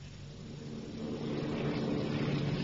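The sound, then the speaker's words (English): A steady droning propeller plane engine hums continuously as the plane flies over the Alps after taking off, a low throbbing roar that swells slightly louder partway through, heard alone with no voices. “They've taken off on schedule. The plane's airborne.”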